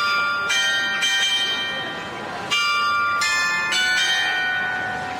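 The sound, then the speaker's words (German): The mechanical carillon of the town hall in Franeker, Netherlands, chimes a slow, stately wedding march, bright bell notes struck one after another and ringing over each other, fairly loud with an open outdoor feel. “Das Glockenspiel des Rathauses, auch ein mechanisches Wunderwerk, lässt zu unserem Abschied passend den Hochzeitsmarsch erklingen.”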